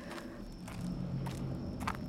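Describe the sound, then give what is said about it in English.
Footsteps of someone walking to the back of a refrigerated produce trailer at a steady pace, about four or five evenly spaced thuds over a constant low hum, with no talking. “I'm walking to the back.”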